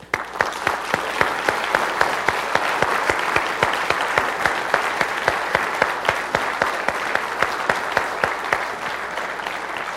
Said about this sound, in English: And all we can do in return, all we can do is applaud you. Let's do that today.